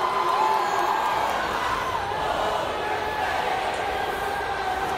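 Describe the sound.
A large crowd shouts and cheers continuously, calling the name of the drag queen Pabllo, a dense, steady roar of many voices with occasional higher whoops rising above the mass for the full stretch.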